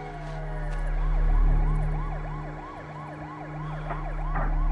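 approaching emergency vehicle sirens

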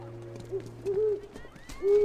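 owl hooting

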